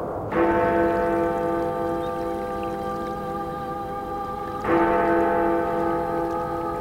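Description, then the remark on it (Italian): A church bell, the legendary bells of Alleghe in the Dolomites, tolls twice, slow strokes about four seconds apart, each ringing out with a long, rich, humming decay over a soft hiss in the background. “È una leggenda, naturalmente, e infatti si sentono soltanto con le orecchie della fantasia, quelle campane.”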